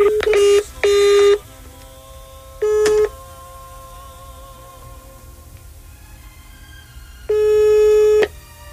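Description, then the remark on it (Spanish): Telephone call tones from a call to a mobile phone that is switched off: a few flat electronic beeps, two quick ones, another shortly after, then a longer tone after a pause, with faint humming tones in between and no voices. “Pues no, carnal, está apagado el cel.”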